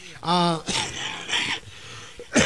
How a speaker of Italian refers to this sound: E mi auguro che la tosse non faccia come l'altra volta durante lo sport, speriamo ancora, purtroppo non vuole andare via, ma è molto meglio di come è stata nelle ultime settimane, però troppo a lungo.